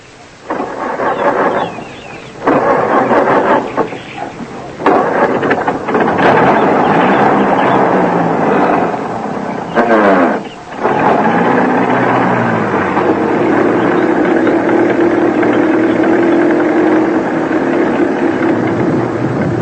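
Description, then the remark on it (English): An old car engine coughs and sputters through a few false starts, then catches and revs, settling into a loud, rough, steady rumble with no voices. “In that ridiculous old car.”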